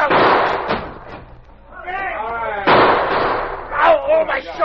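Stacked bundles of heavy paper topple in loud, dull crashing thuds, a burst at the start and another midway, with a man's shouts rising between and over them.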